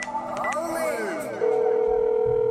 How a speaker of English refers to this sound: incoming phone call.